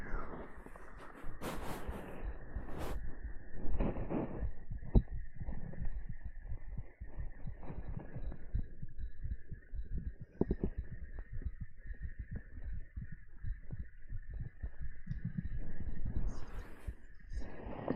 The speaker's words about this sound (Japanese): 心臓が音聞こえますか